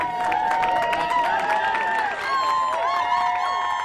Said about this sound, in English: As couples left the building, licenses in hand, a cheering crowd greeted them.